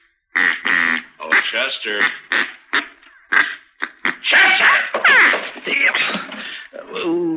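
A duck call, ordered by mail from St. Louis, is blown in a rapid series of nasal, raspy quacks, fairly loud, with short pauses between bursts and a longer, drawn-out run of quacks near the end.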